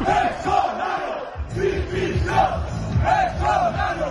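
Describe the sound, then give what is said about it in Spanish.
A large crowd in the Plaza del Ayuntamiento in Valladolid chants for the resignation ("dimisión") of the Real Valladolid coach, who leads the chant on a microphone; voices rise and fall in a steady repeated rhythm of shouted syllables, loud and sustained with a brief dip partway through before the chant resumes. “Por supuesto, la gente le ha acompañado. O sea, es que ha sido el grito más unánime que se ha escuchado.”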